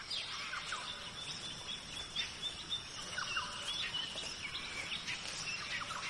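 A steady rainforest soundscape: a dense, high insect hum runs throughout while birds add scattered chirps and short whistled calls at a soft, even level, with no voices.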